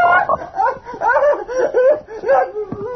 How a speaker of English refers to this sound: That monster. It attacks me. What? What in God's name is it? It's only a frog